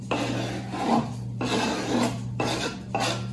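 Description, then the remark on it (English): A cloth wipes tomato juice off a cutting board after tomatoes are chopped, in four rough, raspy strokes, each a sustained scrubbing swish, with a steady low hum underneath and no talking. “Before she starts doing the basil, she has to wipe all of the tomato juice off the cutting board so it's nice and clean.”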